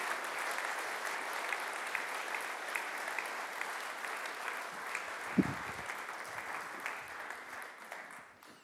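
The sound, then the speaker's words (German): Sustained audience applause, a dense wash of many hands clapping steadily throughout, with a brief louder thump midway, fading slightly at the end. “Geben wir ihnen doch einen kräftigen Applaus.”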